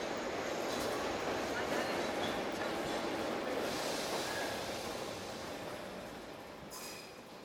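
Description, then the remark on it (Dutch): A train bound for Oostende rolls into a station on platform 5 with a loud, steady rumble of wheels on track that gradually eases as it slows, with faint metallic squeals and indistinct background voices; the train stops in Brussel-Zuid, Gent-Sint-Pieters and Brugge. “De trein met bestemming Oostende rijdt het station binnen op spoor 5.”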